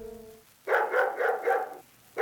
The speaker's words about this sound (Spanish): Ningún monstruo yacía sobre su pecho. Era simplemente un beagle que llamaba a su amo.